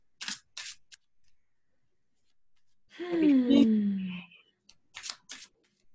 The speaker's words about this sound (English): So, again, we're using Modern Witch Tarot. I still have a deck on the way. We're waiting for that. We're about to shuffle.